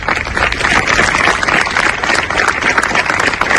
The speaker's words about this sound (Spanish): Con estos aplausos se han roto los 5 minutos de silencio que se han guardado este mediodía en Punta Umbría.